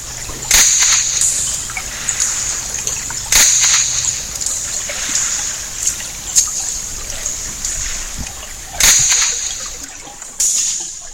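Several sharp, whip-like cracks snap out at irregular intervals over a steady hissing underwater backdrop, each crack sudden and fairly loud: a zander hunting at midnight in summer, sneaking up from behind and stunning a small fish with the crack before sucking it in. No voices.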